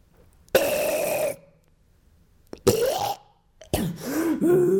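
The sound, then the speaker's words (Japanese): Three loud burps, each a short voiced croak with a wavering pitch, separated by brief pauses of silence, the last one longer and more drawn out. “よし、気分が乗ったけん、ゲップも聞かしたる、聞かしたるぞ。”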